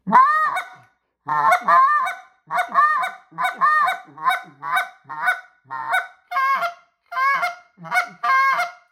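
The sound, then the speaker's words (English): A medium-sized goose call (the Omega or Exit model) blown loud, producing a steady series of about a dozen deep goose honking notes in quick rhythm, with short gaps between each honk and no talking. “I can, you know, hit that deep goose.”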